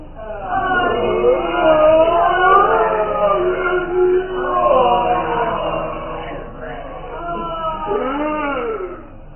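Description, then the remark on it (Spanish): Ghostly moans and wailing screams from several overlapping voices of corpses, victims accusing the Baron of Tífano and crying for vengeance and justice, rising and falling in pitch in long, wavering cries that stay loud and continuous throughout, with no speech. “Escuche sus gritos impresionantes que son palabras acusadoras.”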